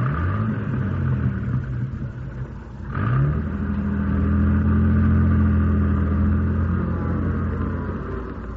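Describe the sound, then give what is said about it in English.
An old jalopy's engine rumbles steadily, then revs up around the third second as it pulls forward and is driven across the road, keeping on at a low, chugging drone. “Now drive this jalopy across the road.”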